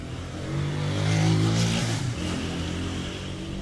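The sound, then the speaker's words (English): A motorcycle, its rider in camouflage pants and a black shirt, swells as it passes along a narrow residential street, its pitch climbing then dropping away, leaving a steady low rumble of traffic and street noise behind. “I don't know if that was a soldier or not on that motorcycle.”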